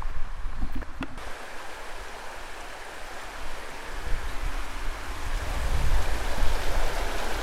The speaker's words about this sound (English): Now, as you can hear, I'm walking by a river, and I'm actually between two quite deep ponds, actually used for fishing.